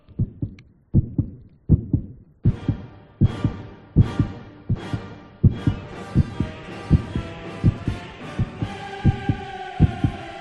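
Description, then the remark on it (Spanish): A steady, thumping fetal heartbeat pulses throughout. Dramatic funeral requiem music by Verdi soon joins in, with heavy crashing hits and swelling orchestral tones layered over the rhythmic beat. “Pero lo más asombroso es que lo que sucede, lo que sucede cuando se ensamblan estos dos sonidos, es decir, el del latido del feto y el de la música de Verdi.”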